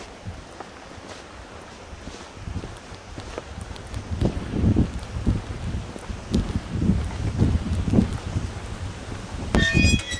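wind blowing outdoors

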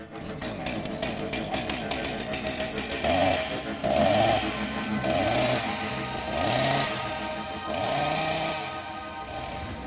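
chainsaw engine revving

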